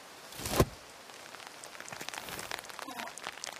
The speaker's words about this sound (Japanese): 雨やまなそうだし、別にこのまま待っててもいいけど、先生はやることがあるでしょ。